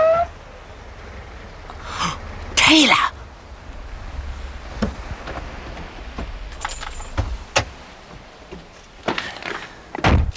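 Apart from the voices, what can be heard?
car approaching and stopping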